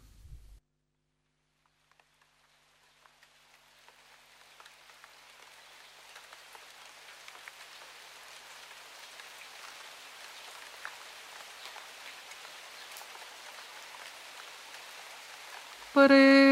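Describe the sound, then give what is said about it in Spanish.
Steady rain patters and hisses, gradually swelling from near silence into a dense, continuous shower with scattered individual drops, ending abruptly with a brief louder tonal burst. “donde canta a capela únicamente acompañada de la lluvia.”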